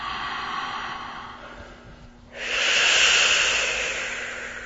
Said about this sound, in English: And we're going to take a few deep diaphragmatic breaths. We'll work on that later. But for now, just take some deep breaths into your gut like this.